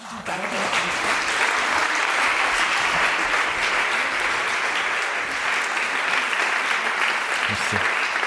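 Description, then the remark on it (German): Sustained applause from a live audience at an event on a Friday evening, thanking everyone involved, a dense, steady wash of clapping that stays loud and even for several seconds without letting up. “Ich finde, das ist ein grosser Applaus.”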